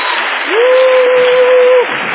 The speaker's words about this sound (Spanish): Gracias, Señor. Gracias, Señor. Aleluya. Amén. Un aplauso al que vive.